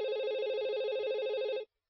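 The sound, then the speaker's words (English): A telephone rings with a single steady electronic trill, loud, lasting under two seconds before cutting off abruptly into silence. “the phone's ringing.”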